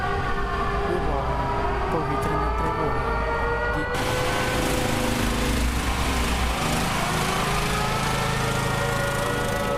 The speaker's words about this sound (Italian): Sirene antiaeree che annunciano gli attacchi, i generatori ausiliari, i piccoli generatori portatili agli angoli delle strade, le liturgie delle feste e dei canti. Sono le sonorità di un Natale sfollato come tocca in questi mesi a tanti in Ucraina.